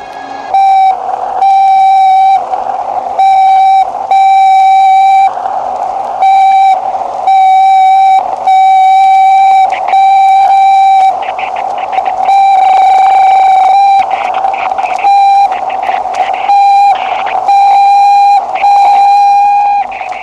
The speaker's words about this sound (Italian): Al centro di ascolto spaziale di Bochum, nella Germania federale, i segnali del Korable III vengono registrati poco dopo il lancio. Eccoli.